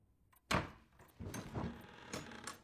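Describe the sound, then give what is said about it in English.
A door opens with a sharp click or thud of the latch, followed by a longer scraping, rolling movement with a few knocks as it swings, without any voices. “did you knock? Must I knock? I believe it is considered polite.”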